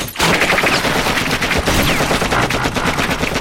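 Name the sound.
machine gun fire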